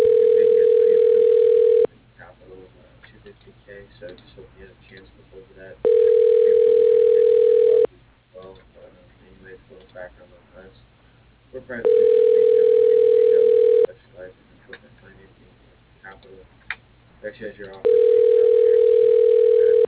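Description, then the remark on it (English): A steady, loud telephone ringback tone as a call to Fairmont Sign Company's phone system dials an extension. It sounds four times in a regular pattern, each burst about two seconds long, with roughly four-second gaps filled by faint murmuring voices. “Dialing.”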